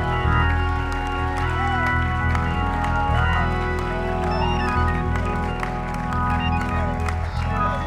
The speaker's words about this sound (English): Come on, one more time. Clap your hands, all ye people, and shout to God.